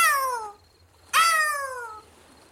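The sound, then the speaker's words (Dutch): A large white seagull with a wooden leg, Karel, soars overhead at the beach of Egwijk aan zee, screeching fearfully in two loud, drawn-out cries that slide downward in pitch, separated by a short pause, with a third cry just starting at the end. “Kijk, daar zweeft een hele grote witte meeuw.”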